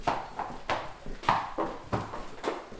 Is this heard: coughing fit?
no